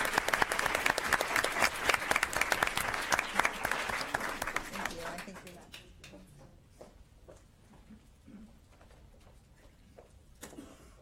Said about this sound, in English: So if you could give my wonderful team another round of applause.